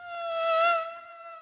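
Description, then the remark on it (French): A curious fly that came in through the window buzzes with a steady, whiny drone that swells louder as it passes, then fades slightly as it keeps circling. No voices. “Une mouche curieuse est entrée par la fenêtre.”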